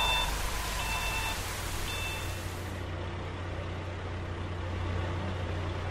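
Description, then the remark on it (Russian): A concrete mixer truck pours orange concrete mix onto sand, its engine rumbling steadily with a low, constant drone, with a few short high beeps in the first seconds over a broad churning wash of noise. “Бетономешалка заливает песок оранжевой бетонной смесью.”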